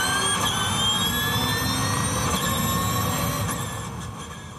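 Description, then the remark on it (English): A race car's high, layered engine whine holds steady and climbs slightly in pitch over a loud rushing whoosh, easing off a little near the end. No one speaks. “It's a whine and a whoosh.”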